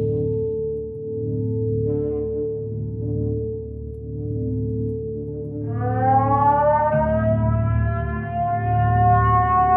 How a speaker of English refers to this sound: It is the middle of the night, and alarms have started going off. You can probably hear them now.